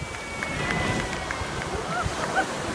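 Atlantic Ocean waves wash steadily against a beach at Sandy Hook, New Jersey, in a continuous, moderately loud roar of surf and wind, with a couple of faint high chirps near the end.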